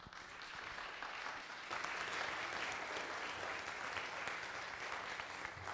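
A church audience applauds the children of junior worship, kindergarten through fourth grade, as they are dismissed: a dense wash of clapping that swells slightly after the first couple of seconds and holds at a strong, even level throughout.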